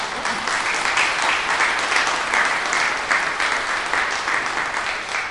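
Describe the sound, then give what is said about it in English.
An audience at a church service claps steadily for several seconds, a dense, even wash of applause with no voices rising above it. “They deserve applause, like the cell phone man.”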